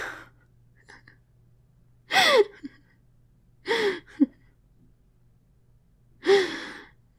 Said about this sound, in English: Oh no! Another yawn! Why don't you ever yawn? Why do I always yawn?